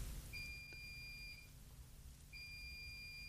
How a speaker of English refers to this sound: And then the washing machine is beeping hysterically. And you have to get up and turn it off because otherwise it really annoys you. And now when I want you to beep to demonstrate, there you go.